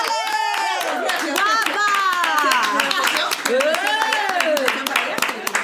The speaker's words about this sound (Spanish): ¡Aplaudime, por favor!